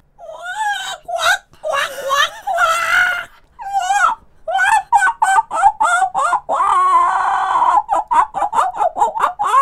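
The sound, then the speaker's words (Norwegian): A person imitates a seagull, as part of a contest to see who can best imitate a gull, letting out a run of high, wavering squawks and cries in quick bursts, with short pauses between them and a longer, sustained wail toward the end. “Så jeg tenkte at vi skulle se hvem som klarer å etterligne måke mest.”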